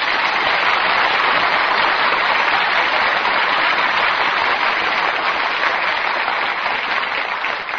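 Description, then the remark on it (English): Sustained applause from a studio audience for the stars Richard Widmark, Paul Douglas, and Joyce McKenzie, a dense, steady wash of clapping hands that holds at a loud, even level for several seconds without any voices over it. “And now you can all sit back and relax and join me in well-earned applause for Richard Widmark, Paul Douglas, and Joyce McKenzie.”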